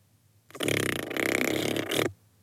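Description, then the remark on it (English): A loud, sustained fart from a large, rocking, jiggling dragon egg, lasting about a second and a half, buzzy and rumbling with a fluttering texture, with no talking around it. “The dreg's fart was so loud that Nori stumbled backward into a pile of sticky notes.”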